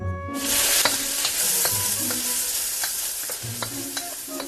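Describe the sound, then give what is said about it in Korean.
Steady, dense sizzling of dried shrimp lightly stir-frying in a little oil with soy sauce and a bit of sugar, with repeated light clicks and scrapes of a utensil tossing them in the pan and no voices. “마른 새우에 기름을 살짝 두르고 간장과 설탕을 약간 넣어 가볍게 볶아준다.”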